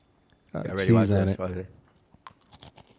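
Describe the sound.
A voice sounds briefly, then a few crisp crunches follow as someone bites into a cracker with brie, short dry snaps in quick succession.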